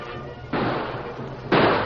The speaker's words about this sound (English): The Lone Ranger and Tonto were met by gunfire when they went on a friendly mission to the camp of Bill and Fred Vance.